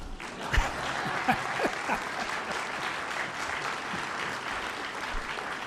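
A conference audience applauds steadily for several seconds, a dense wash of many hands clapping at moderate volume, with a few sharper individual claps standing out early on.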